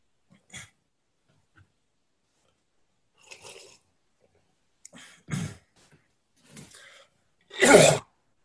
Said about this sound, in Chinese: 我这咳嗽已经咳了，从去年咳到现在呀。每天常常会就是咳嗽，我们家女儿都已经受不了了。